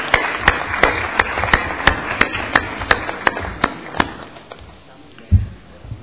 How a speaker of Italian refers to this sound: quindi facciamo accomodare il consigliere Paolo Ferraresi che accogliamo con un applauso.